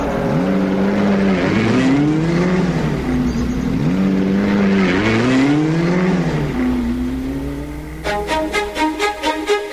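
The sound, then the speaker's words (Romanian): Racing car engines roar and rev loudly together, pitch rising and falling as they accelerate off the line, then a rapid rhythmic pulsing rattle takes over near the end. “Atențiune, mașinile să se prezinte la start.”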